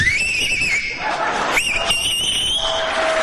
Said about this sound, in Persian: این آقا سه تا انگشتشو یا دو تاشو گذاشته تو دهنش داره سوت میزنه. من بهش میگم که توی جوون حیف، دهنت گشاد میشه، نمیخواد انگشتات دهنت بکنی، شما همینجوری هم میتونی سوت بزنی.